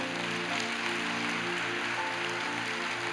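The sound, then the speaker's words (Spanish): A church audience applauds steadily for the Lord, a dense wash of many hands clapping at once for several seconds, with a faint sustained musical tone underneath and no voices. “¿Quién le puede dar un aplauso al Señor?”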